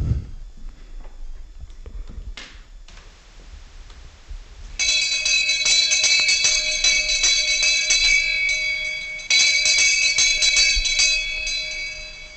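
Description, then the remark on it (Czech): A school bell rings loudly and continuously for several seconds, a shrill metallic rattle that starts abruptly after a few quiet seconds of faint background noise. “Zvoni i za učitelje.”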